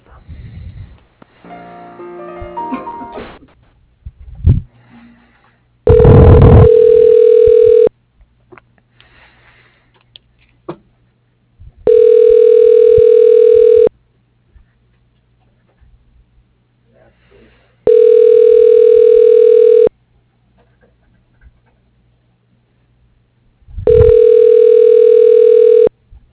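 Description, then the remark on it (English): A telephone ringback tone heard while a call is being transferred to a voicemail: four steady, mid-pitched buzzing rings, each about two seconds long and separated by roughly four seconds of quiet, after a brief muffled voice at the start. “Yeah, let me put you through to his voicemail.”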